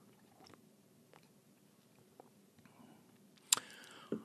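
Quiet, then a wet sip and slurp of a cider cocktail near the end, followed by a brief second mouth sound. No one speaks.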